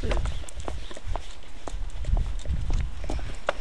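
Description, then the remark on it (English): A steady run of heavy footsteps thuds across a metal manhole cover at Think Tank, about eight dull, booming clanks in an even rhythm, with faint voices murmuring underneath. “With that funny manhole you think we walked on, and kind of went. Doof, doof, doof.”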